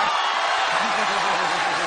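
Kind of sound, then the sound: crowd, audience applause and cheering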